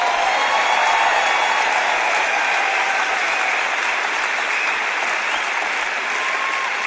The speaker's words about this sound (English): Come on, if you're going to clap, don't patty cake.